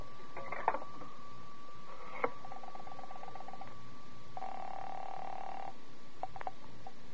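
A telephone in a phone booth at a filling station being dialed, with a few sharp clicks and short tonal bursts over a steady faint hum, then a longer buzzing tone before more brief clicks. No one speaks.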